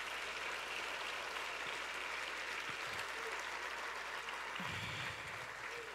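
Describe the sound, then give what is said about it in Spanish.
An audience applauds steadily throughout, a dense wash of many hands clapping together at a fairly loud level, with a few faint voices rising briefly beneath it. “Dios mío, déselo mejor ese aplauso.”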